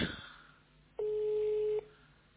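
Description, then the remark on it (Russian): A telephone line tone sounds once on a corded push-button landline telephone: a steady, low-pitched electronic beep lasting nearly a second, clearly louder than the faint background hiss, with a brief noisy rustle just before it. “Гудок”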